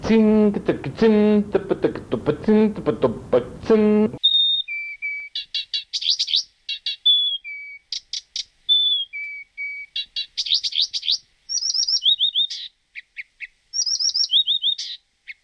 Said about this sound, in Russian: Камышовка. Очень интересная птичка. Такие трели. Такая ритмика. Профессиональным музыкантам дал послушать. Так они говорили, что это пособие для учебы на перкуссию. Ударные инструменты.